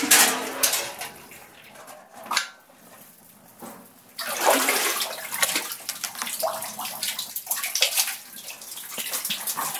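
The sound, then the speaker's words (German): A river current swollen with meltwater rushes steadily, a broad hiss of flowing water that swells and eases, with occasional small knocks and clinks mixed into the flow; small ice floes still drift on the river. “Die Strömung kommt vom Schmelzwasser, es treiben noch einzelne kleine Eisschollen auf dem Fluss.”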